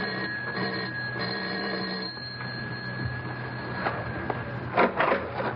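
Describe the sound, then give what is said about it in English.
The doorbell of a studio apartment rings in one long, steady electric buzz lasting several seconds, followed by a brief pause and a few muffled clunks. No one speaks. “It's odd she doesn't answer her doorbell,”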